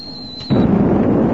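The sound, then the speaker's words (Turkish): A sci-fi photon torpedo effect as torpedoes are fired at a locked target and hit its fuel section: a thin, high whine gives way to a sudden loud explosive burst that rolls on as a dense, sustained rumble. No one speaks. “Foton torpillerini hazırla.”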